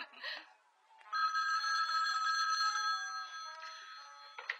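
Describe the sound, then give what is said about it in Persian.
A telephone rings with a sustained, bright electronic trill lasting several seconds, steady, after a brief burst of sound at the start. “تلفن.”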